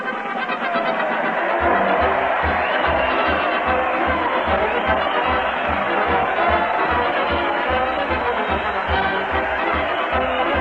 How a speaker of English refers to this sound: Listen to that crowd cheer Fred Allen as he leads his parade to the old Town Hall. Fred's leading the band to the billiard cue, and America's Eight Balls, the mighty Allenard players, are rolling along behind.